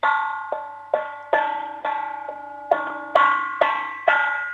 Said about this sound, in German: Hol einen Kochtopf und einen Löffel und dann möchte ich so richtig viel Lärm hören. Klopf mal drauf